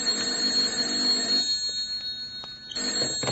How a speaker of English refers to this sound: Then my phone shrilled.